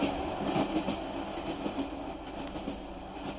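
A train rattles steadily along the rails, a dense, continuous rumble broken by faint rhythmic clacks of wheels over track joints, with no voices.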